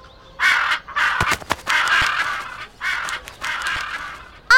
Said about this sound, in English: We live next to the birds. They always wake up early.